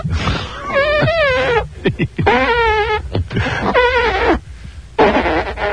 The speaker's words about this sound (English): Excellent. We will give all of the contestants a chance to make music with their armpits.